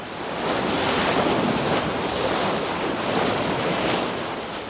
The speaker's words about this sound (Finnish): Kun aalto lyö rantaan kerran sekunnissa, sen taajuus on 1 hertsi. Kun aalto lyö rantaan 2 kertaa sekunnissa, sen taajuus on 2 hertsiä.